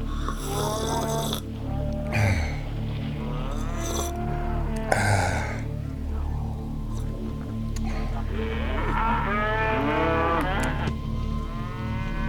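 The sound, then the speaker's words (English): Several wild cows moo loudly and repeatedly outdoors in a residential neighborhood on a hot, humid day, their long, drawn-out bellows overlapping over a steady low rumble, with no one speaking. “All these cows are really driving down the real estate prices around here.”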